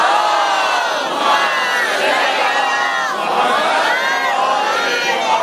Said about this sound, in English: May Allah bless you, and I request all for all of them a loud, loud salawat.